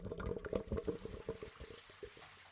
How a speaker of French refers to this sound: Ce qu'on entend là, c'est l'eau qui sort de chez vous. On parle de l'eau de votre évier, de votre douche, de vos toilettes, machine à laver, lave-vaisselle... Bref, tout ce qui rejette de l'eau.